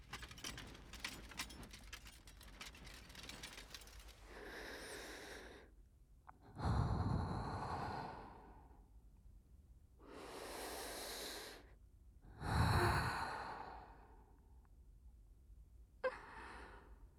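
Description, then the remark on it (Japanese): Slow, airy breaths blown softly into the ear, several long exhales with gaps between them, some swelling louder and lower, preceded by a rustling, crinkling patch. No one speaks. “吐息が耳にかかってくすぐったいか？”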